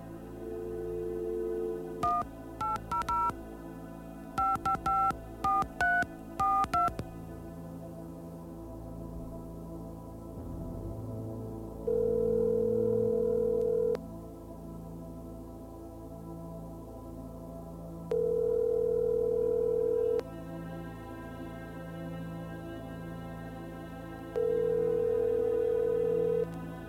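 A woman dials her ex-husband's telephone number in a quick burst of tone beeps, followed by three evenly spaced ringing tones over a steady low background hum. No one speaks.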